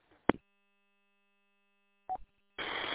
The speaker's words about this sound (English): Yeah, there's too much of a Roger beep.